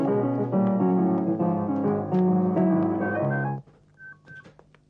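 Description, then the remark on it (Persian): A telephone rings loudly, a steady, melodic electronic tone lasting several seconds before cutting off, followed by a few faint, short beeps in quiet. “کسی تلفن رو جواب نده.”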